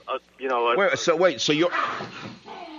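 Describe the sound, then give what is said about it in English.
Two dogs fighting under a desk snarl, bark and yip at each other in a short, frantic scuffle, fairly loud, with high whining yelps rising and falling over about three seconds. “My dogs are fighting under the desk.”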